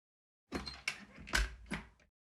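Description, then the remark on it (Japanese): A key works a door lock: a short series of four metallic clicks and clunks over about a second and a half, the third one heaviest, with faint scraping between them. “なぜ鍵をかけるのかって？”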